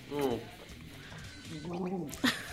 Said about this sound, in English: Jalapeno turkey. Gross. Hold on, I need a gargle. We'll get to it in a minute.